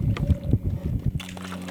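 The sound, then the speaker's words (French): A large boat's engine rumbles steadily on the water during a short boat trip, with a low droning hum and a buzzing tone, while wind buffets the microphone; no one speaks. “Un gros bateau.”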